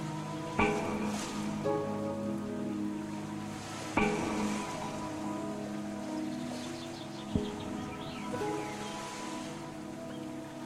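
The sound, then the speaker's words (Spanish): Steady rushing water runs through streams and falls further on as a waterfall, continuing throughout beneath sustained soft musical tones, with a few gentle thumps and faint high bird chirps near the end. “El sonido del agua corriendo por los arroyos y cayendo más adelante como cascada.”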